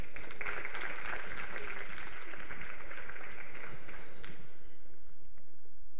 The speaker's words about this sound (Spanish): Un aplauso para él.